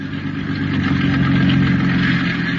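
A powerful motorboat, showing no lights, runs steadily as it enters the harbor of a city on the Pacific coast and proceeds cautiously toward an abandoned wharf: a loud, continuous low rumble with a droning mid-range hum, holding an even pitch for the whole stretch with no voices.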